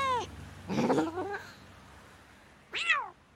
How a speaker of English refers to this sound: Look, there! It's a cat, said Town Mouse.